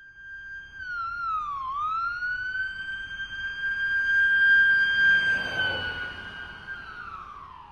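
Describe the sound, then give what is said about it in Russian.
An ambulance siren sounds as the ambulance takes an injured girl to hospital. It holds a loud, sustained high wail that briefly dips and swoops back up, then carries on steadily throughout, with no voices and only a faint background rumble. “Скорая помощь отвезла Веру в больницу.”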